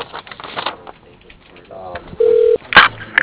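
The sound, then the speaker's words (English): A telephone rings with one short, steady electronic tone partway through, heard over a narrow, phone-line-like sound with muffled background voices and clatter. “I hate this ringing all day, dude.”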